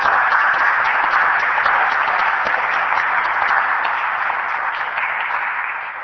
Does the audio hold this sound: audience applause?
yes